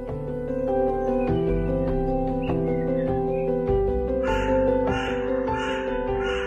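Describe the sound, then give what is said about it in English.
Black and grey hooded crows around a city caw in a series of harsh, rhythmic calls, clustered toward the end, over a steady background of sustained musical tones. No one speaks. “the black and grey ones I see around the city are hooded crows that live in large flocks”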